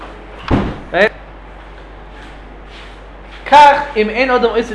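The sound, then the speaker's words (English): A door is swung shut with a single loud slam, followed by a short squeaky burst, a quiet pause, and then people talking. “So we want you to close the door?”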